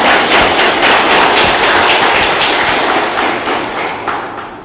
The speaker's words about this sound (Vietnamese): Xin quý vị hãy dâng cao tràng pháo tay để đón chào bác.